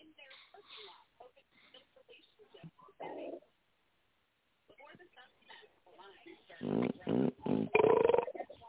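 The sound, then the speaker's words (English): A man snoring, with a run of loud, low, rumbling breaths in steady rhythm toward the end, after quieter muffled voices and a pause. “It's one of them two motherfuckers up there snoring.”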